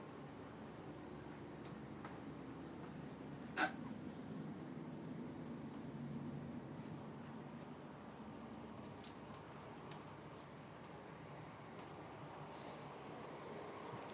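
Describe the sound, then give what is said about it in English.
Steady low rumble of a moving train carriage, heard from the far end of one carriage, with a constant hum and faint rattles and clicks, plus one sharp brief knock early on; no voices. “We're at the far end of one carriage here.”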